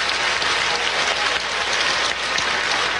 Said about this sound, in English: Standing O from the crowd.